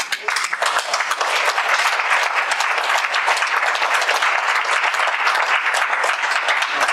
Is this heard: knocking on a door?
no